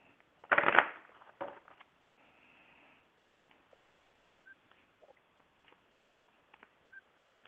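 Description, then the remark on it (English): A deck of cards is shuffled for a card reading: a loud riffling burst, a second shorter riffle, then faint scattered taps and soft card slides in near silence. “I'm going to start shuffling now.”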